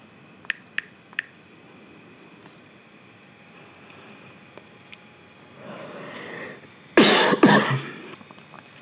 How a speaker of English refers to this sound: Jesus Christ, this little cough of mine.